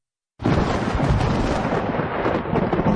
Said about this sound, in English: That night the storm broke with a clap that shook the walls of my room.